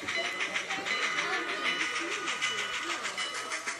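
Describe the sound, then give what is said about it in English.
A model train's bell clangs in a steady rapid rhythm alongside a sustained, shrill whistle tone, fairly loud, with a low murmur of voices in the background, at a model train club's track layout. “Yeah, go ahead and hit the bell and whistle.”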